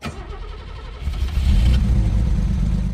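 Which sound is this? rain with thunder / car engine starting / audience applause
car engine starting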